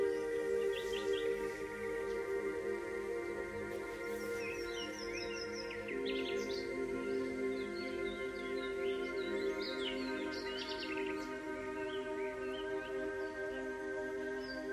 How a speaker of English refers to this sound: And now your attention is captured with watching the squirrels and rabbits darting about, noticing the birds flying and hopping from place to place, singing their songs, and noticing all the other wildlife at work and at play.